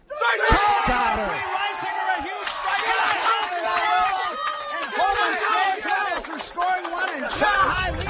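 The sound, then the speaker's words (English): The Chi-High boys baseball team, appearing mid-game, cheers and shouts together, with overlapping young voices yelling and chattering, plus a few sharp claps or thumps scattered throughout. “Chi-High boys baseball team has appeared mid-game to amp up the noise.”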